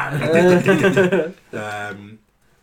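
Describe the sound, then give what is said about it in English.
A person imitates a roar with a loud, drawn-out growling vocal burst, a brief pause, then a second, shorter roaring sound. “He roars as well.”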